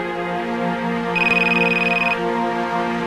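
A cell phone rings once with a warbling electronic tone lasting about a second after being dialed from another cell phone, standing out over a steady musical hum in the background.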